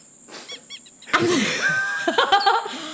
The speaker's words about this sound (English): Sorry, I had the sniffles.